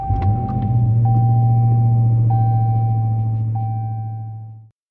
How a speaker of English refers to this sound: And today, I'm in the car on my way to work